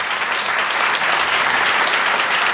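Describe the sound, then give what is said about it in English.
An audience applauds steadily as an audible vote in a poll on whether they have watched a video, a dense, continuous patter of many hands clapping at once, fairly loud and even, with no voices standing out. “Audible clapping if you have watched the video or not watched the video.”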